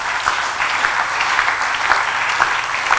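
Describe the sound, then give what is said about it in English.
An audience claps steadily, a dense wash of many hands with scattered sharper slaps standing out, holding an even loudness throughout without any talking. “Oh, you should be clapping for that.”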